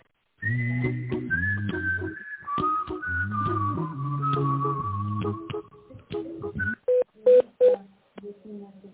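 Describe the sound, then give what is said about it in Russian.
An automated phone line voice asks the caller to wait for an operator or dial an employee's extension, then falls silent as a quick series of four or five short, clipped telephone keypad tones sounds, each a bright two-pitch beep with gaps between presses. “Пожалуйста, дождитесь ответа оператора или наберите добавочный номер сотрудника. По окончании набора нажмите решетку.”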